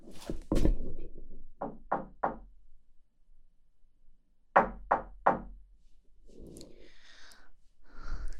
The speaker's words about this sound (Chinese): 敲门也没有人应，那我就可以进来了。